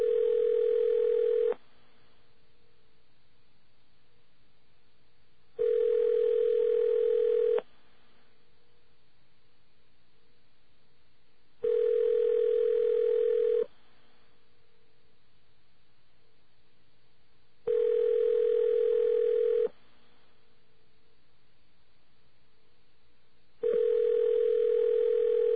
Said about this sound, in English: Let's listen to the ring here. Now, after about four rings, you'll hear a difference, and that's when call answering starts to kick in.